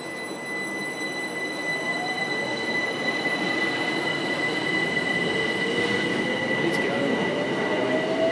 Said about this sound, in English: The next train to arrive at platform 2 will be a service to New Cross. Please stand well clear of the edge of the platform.